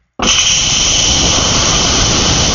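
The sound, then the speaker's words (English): An espresso machine steam wand, its tip in milk, bursts into a loud, steady hiss while frothing the milk; it starts abruptly and holds constant, a bright rushing roar with no voices or pauses. “That's nice steam coming out for you.”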